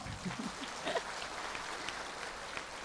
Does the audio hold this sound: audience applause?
yes